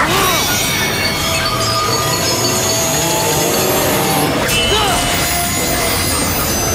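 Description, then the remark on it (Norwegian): The chainsaw tail of Blade Wolf (prototype LQ84i), the robot dog from the game Metal Gear Rising: Revengeance, revs with a loud, steady grinding buzz, its whining motor pitch sweeping upward briefly near the start and again toward the end, with no pauses throughout. “Dette er Blade Wolf fra, eller prototype LQ84i fra Metal Gear Rising. Yeah. Revengeance. Ja, det er robothunden med motorsaghalen.”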